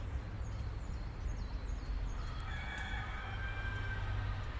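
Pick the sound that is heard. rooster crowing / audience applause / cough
rooster crowing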